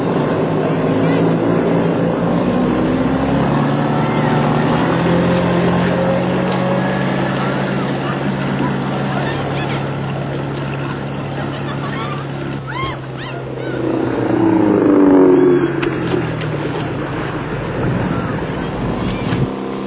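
A service boat's motor engine drones steadily for the whole stretch, a low continuous hum over rushing water, briefly swelling louder partway through before settling back.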